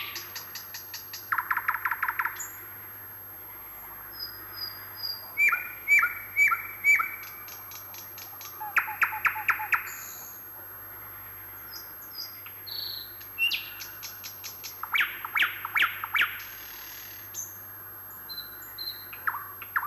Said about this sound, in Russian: Слышите? Среди кваканья лягушек отрывистый посвист. Это голос болотной курочки погоныша.